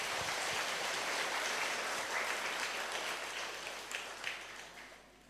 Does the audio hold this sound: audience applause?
yes